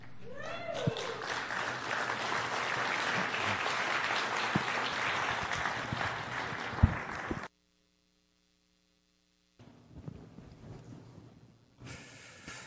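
An audience bursts into a sustained Living Hope welcoming clap, dense and loud for several seconds, before cutting off into silence; faint room noise and a voice return afterward.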